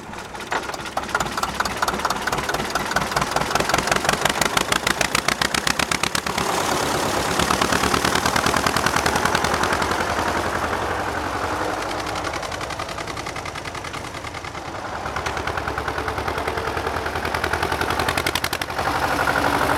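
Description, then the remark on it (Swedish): A loud tractor engine idles steadily for the whole stretch, its rapid chugging pulses forming a continuous rattling throb with no voices over it. “Städer du motorn? Kan du städa, eller ska du parkera någonstans?”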